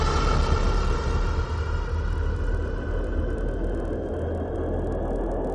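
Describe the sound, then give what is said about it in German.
A futuristic vehicle, a 'cyber sled', powers up and accelerates away on a drive to London, a loud, steady rushing engine roar with a deep rumble that eases off slightly over several seconds. No voices. “während der und ich mit dem Cyberschlitten hier nach London fahren, um Nigel zu finden. Einverstanden? Prima, los. Dan, gib Gas.”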